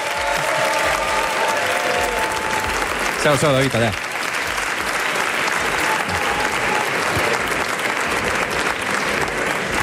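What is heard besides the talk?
audience applause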